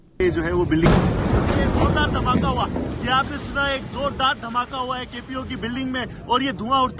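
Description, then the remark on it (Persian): Live Dawn TV news footage of an explosion at the central police headquarters in Karachi, Pakistan, during a suicide attack: a single loud, booming blast erupts near the start, followed by rumbling noise and wind buffeting as a reporter talks excitedly over the scene. “گزارش دهی زنده تلویزیون دان از لحظه یک انفجار در قرارگاه مرکزی پلیس در شهر کراچی، بزرگترین مرکز تجارتی پاکستان.”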